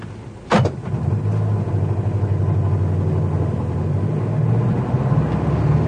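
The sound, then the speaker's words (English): A sharp thump like a car door shutting, then a taxi engine rumbles steadily as the taxi sets off to follow another car, a low motor drone that carries on to the end with no voices. “Quick, driver, there's a quid for you if you don't lose him.”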